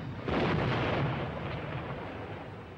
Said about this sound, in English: the base of the flat-top mountain and look up to see the top of the plateau erupt in an immense fireball. The explosions illuminate the explorers and the jungle behind them.